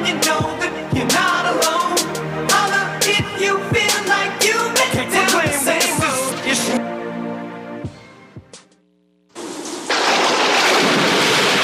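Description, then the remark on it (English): Loud music plays for several seconds, fades to a brief silence, then a dense, steady roar of heavy rain and rumbling thunder from a storm bursts in loudly. “After a hurricane or storm, get the Nassau Guardian's Hurricane Guide.”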